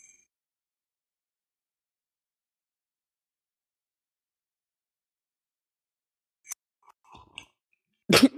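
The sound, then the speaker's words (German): Long silence, then a few faint mouth clicks and soft rustles before a single loud throat clearing bursts out right at the end. “Ich muss mal kurz mich räuspern, sorry.”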